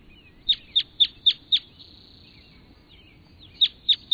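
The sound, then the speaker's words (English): Red crossbill calls: sharp, clipped chips given in a quick run of five, a pause, then three more, clear over a faint low rumble. “Red crossbills can be seen searching for cones on the tops of the trees, climbing around using their feet and bills in the manner of parrots.”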